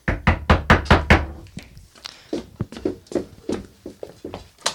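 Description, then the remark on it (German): Police knocking loudly and rapidly on a front door, a quick burst of about six heavy raps followed by a longer run of softer, uneven knocks, with no voices. “Machen Sie die Tür auf, wir wollen mit Ihnen reden.”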